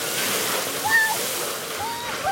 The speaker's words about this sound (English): They're using styrofoam swords to attack the international fountain. We're trying to stop the fountain from spurting out water.